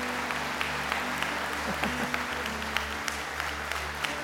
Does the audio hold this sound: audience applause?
yes